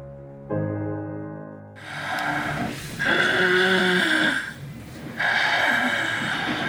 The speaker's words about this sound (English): Obstructive sleep apnea may sound like snoring, but it can also sound like a car crash.